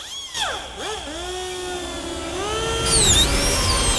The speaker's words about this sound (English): she starts to cut the bone